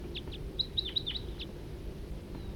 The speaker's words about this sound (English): Wild bird in the distance.